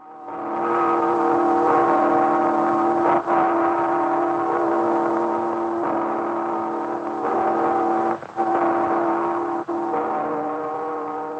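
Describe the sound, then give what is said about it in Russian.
Bells of the belfry of the Yuriev Monastery near Novgorod ring in a dense, continuous wash of overlapping, sustained metallic tones, heard through the steady hiss and crackle of a 1926 phonograph cylinder recording, made a month before the belfry, built by Rastrelli in 1760, was destroyed. “Звучат колокола звонницы Юрьевского монастыря под Новгородом.”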